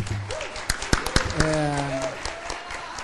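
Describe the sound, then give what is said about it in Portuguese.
An audience at an event in a hotel breaks into brief applause to thank the association's board members, the volunteers and the hotel staff, a scattering of sharp claps over a few seconds, while a voice keeps speaking over the top. “os voluntários, o pessoal do hotel aqui, que sempre responde muito bem à parte de atendimento, e se vocês concordam com isso, por favor, deem uma salva de palmas.”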